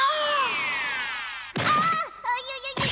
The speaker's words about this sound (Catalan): En Krilin arrenca a córrer i fa un gran salt. Travessa volant el passadís. Topa contra el sostre.